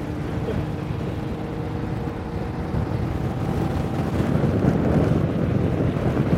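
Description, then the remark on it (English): Steady, loud wind roar buffeting the microphone while riding in an open vehicle at about 70 miles an hour up a long straight hill through moorland, with low engine and road rumble underneath, building slightly louder toward the end. “We're up to 70 miles an hour now. Listen, it's a bit like being perched on the roof of a car.”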